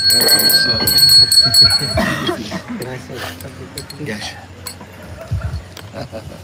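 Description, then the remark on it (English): A bell, presented as the bell of eagerness, rings out with bright, lingering tones for the first couple of seconds, then fades beneath people talking and some light clinking and shuffling. “May this bell of eagerness, may you all ring your own bell of eagerness and be reminded of that how you returned to the land of Krishna, to Krishna himself.”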